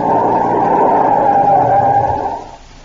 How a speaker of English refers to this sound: We're coming to another turn. Okay, now brace yourself. I'm shoving the brakes on hard.